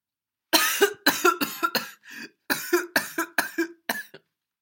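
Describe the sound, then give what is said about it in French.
A harsh fit of coughing from a priest: about nine rough, raspy coughs in two quick bursts with a brief wheezy breath between, loud and unaccompanied by speech. “Une quinte de toux l'arrêta.”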